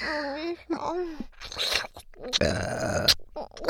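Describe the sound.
A crude, vulgar burp: a rough, gravelly belch rumbling for under a second, preceded by soft voiced vocal sounds and wet mouth noises.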